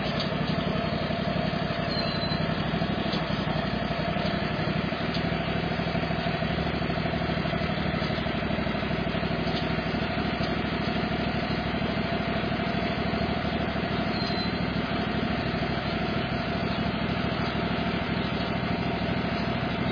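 A tractor engine idles steadily, left running unattended, a continuous low, rumbling drone that holds an even pitch and loudness for the whole stretch with no voices.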